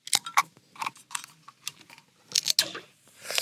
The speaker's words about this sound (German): Erstmal Bier auf, Moment. Das ist wichtig, mit dem Draufklopfen habe ich gehört. Das ist wichtig, Achtung.